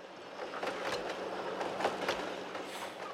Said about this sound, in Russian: И вот, наконец, утром поезд подкатил к маленькой станции.